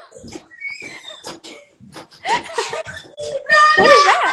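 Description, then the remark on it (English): A child screams and wails in shrill, high-pitched bursts alongside people talking, the cries growing louder and more sustained toward the end; the child is in trouble with their dad. “Is that yelling or That's crying? I my can't tell. child screaming for me.”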